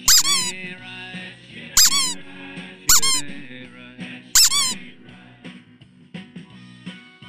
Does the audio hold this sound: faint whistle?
no